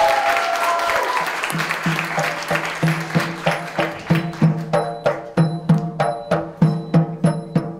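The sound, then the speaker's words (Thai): Loud audience applause welcoming a comedian to the stage at a stand-up comedy show, a dense wash of clapping at first that settles into steady, evenly spaced rhythmic claps over a sustained tonal backing, with no voices. “ขอเสียงปรบมือดังๆต้อนรับเจแปนบุฟเฟ่ครับ”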